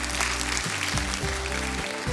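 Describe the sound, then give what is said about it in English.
An audience claps steadily and continuously, a dense wash of applause layered over sustained low musical tones that shift pitch a few times. “You say, well, what are these people clapping about?”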